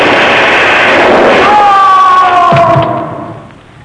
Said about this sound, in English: The giant fell and the beanstalk on top of him.